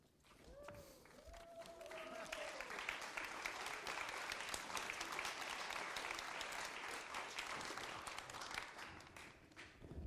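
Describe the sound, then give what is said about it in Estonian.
A church audience at a baptism service breaks into sustained applause for Jesus rising from the dead, many hands clapping densely and steadily for several seconds, with a brief voice-like tone at the start before the clapping fills the room. “See on igatahes aplausi väärt, sest see on vägev värk, et Jeesus tõusis surnust üles.”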